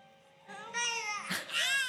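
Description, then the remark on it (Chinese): A baby wails in loud, strained bursts with a rising, harmonic pitch after tasting a bite of food, following a brief quieter whimpering start; no one speaks. “然后后来反正就是各种狂哭，我看一下这有没有声音。”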